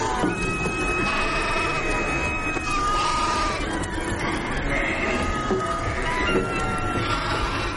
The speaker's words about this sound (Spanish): La gran tormenta ha empezado con un suave crujido en el noreste. Parecía el sonido de una locomotora. La nieve cubre todo.